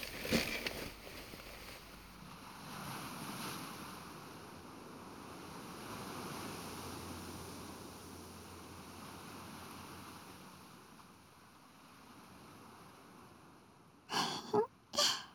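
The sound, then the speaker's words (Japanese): Steady ocean surf washes in a continuous, breathy roar with gentle swells as the sun sets over the sea, no voices present, ending with a few short bursts of louder rustling or wind buffeting. “少し起き上がって海の方をご覧になってください。”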